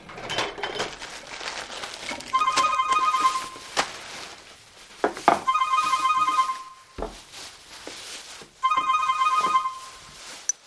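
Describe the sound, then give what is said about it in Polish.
A telephone rings three times in evenly spaced electronic bursts of bright, warbling tones around the midrange, with clattering and rustling noises in between the rings. “Spokojnie, porozmawiamy, ale teraz nie mogłam wytrzymać i dzwonię.”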